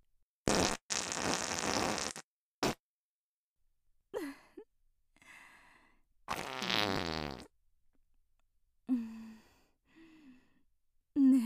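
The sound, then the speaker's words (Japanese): A long, loud, rippling fart from a woman opens, followed by a brief burst and another sputtering fart midway, with soft breathy sighs and gasps in the quiet gaps between them. “そんなにハマるの？おばさんのおなら。”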